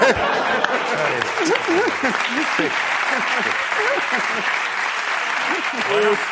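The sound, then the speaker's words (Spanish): A crowd claps steadily in a dense, continuous wash of applause, with scattered voices and whoops rising above it throughout, the audience applauding as an applause-meter vote at a comedy show. “Se aplaude al que queréis que amoche. Aplausómetro.”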